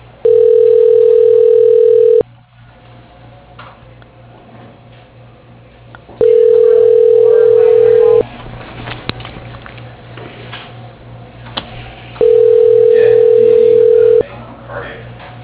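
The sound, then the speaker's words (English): A telephone ringback tone sounds three times while a call is being transferred, each steady electronic ring lasting about two seconds, evenly spaced with quiet gaps of faint line noise in between. “Your call is being transferred. Please hold.”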